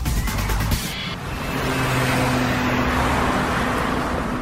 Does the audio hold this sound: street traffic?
yes